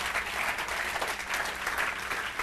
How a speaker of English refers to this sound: I think we're going to give the Lord a clap of praise for that right now.